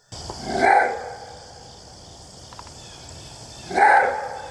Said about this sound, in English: That is a really jowly bark. That's pretty cool. Yeah. I like that.